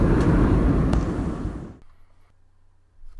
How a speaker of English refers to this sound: So that is what we did on the plane. We were in the air on the way to Florida when we recorded that.